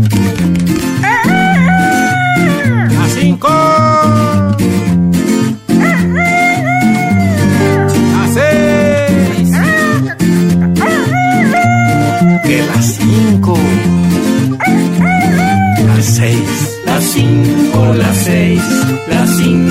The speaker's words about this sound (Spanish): esto que escuchamos, sí, es un señor, sí, colombiano, colombiano, que hace una cosa, una música campesina, pero campesina, campesina. Está bueno. La música que se escucha en el campo, que se llama música carranguera.